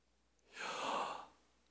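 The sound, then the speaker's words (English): A single soft, airy human breath imitating the sound of the divine name Yahweh, drawn in and let out in one smooth sweep lasting under a second, with quiet silence before and after. “Somebody contends that the name of God is nearly identical to the sound of a human being, even a baby, breathing.”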